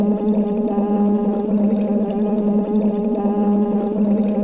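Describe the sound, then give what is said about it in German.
During a speech-therapy warm-up, a steady voiced hum is blown through a tube held in the mouth into water, producing continuous bubbling and gurgling for several seconds without pause, fairly loud. “Und ja, wenn du willst, blubberst du mit.”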